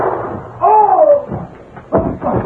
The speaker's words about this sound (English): Look out, Tonto. Gunshot.